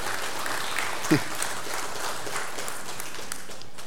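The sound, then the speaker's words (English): A church crowd claps steadily for about four seconds for a salvation, a dense, even patter of many hands at moderate volume, with a brief voice or cheer rising out of it partway through. “You could clap. Yes, yeah, clap for that.”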